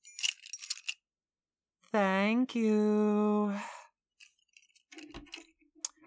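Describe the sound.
Keys jangle in a short metallic burst as they are handed over, a voice briefly speaks, then softer clinks and jingles follow as the keys are handled again.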